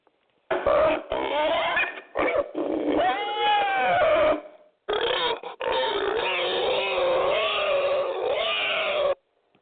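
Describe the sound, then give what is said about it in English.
A voice imitates an angry pig, making loud, gruff grunts and snorting growls in two long bursts separated by a brief pause. “In his car, on his way to church, he's going to be cussing like a pig.”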